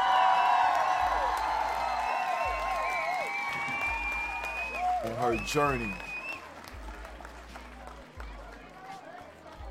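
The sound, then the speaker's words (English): Steady audience applause fills the scene, a dense wash of clapping with rising and falling whoops and cheers over it, and a voice speaks briefly amid the noise. “We want to once again give her a round of applause.”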